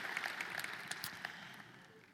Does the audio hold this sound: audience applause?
yes